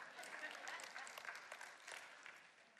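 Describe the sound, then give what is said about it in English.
The PJFC audience claps for themselves in a dense, steady patter of many hands, fairly soft and even throughout the few seconds, with no pauses or standout claps. “I give a clap to yourself.”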